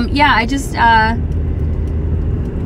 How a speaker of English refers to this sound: I don't know if you guys can hear me pretty well. I'm driving.